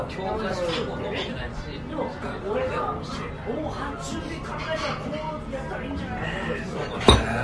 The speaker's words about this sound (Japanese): まあまあまあまあまあ、とりあえず乾杯しましょうか。